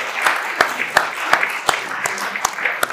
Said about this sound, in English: Big round of applause for that historic campaign.